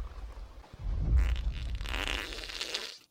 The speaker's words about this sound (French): Et non, ce n'est pas le bruit terrifiant d'un T-Rex en approche, mais bien celui d'un étron qui s'échoue au fond de la cuvette.